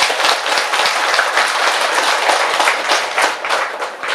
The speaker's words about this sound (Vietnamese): Và nhân dịp này đó thì tất cả các quý Phật tử hãy cho một tràng vỗ tay thật lớn nào. Một tràng vỗ tay thật lớn nữa nào. Thêm một tràng vỗ tay thật lớn nữa nào.